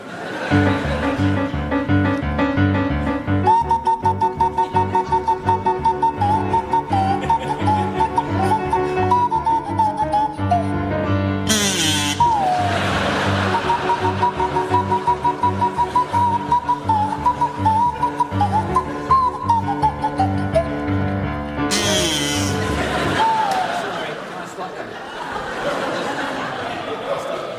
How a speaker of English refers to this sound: provide us with a rendition of the Sabre Dance by Kachaturian to feature Barry Cry on the kazoo and Graham Garden on the Swanee whistle